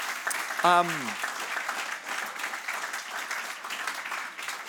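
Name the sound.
audience applause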